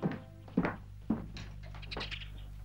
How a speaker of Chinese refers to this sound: 推开门，看见丈夫正在聚精会神地用左手临摹桌上放着的一份手抄文件，罗雪放心地关上门。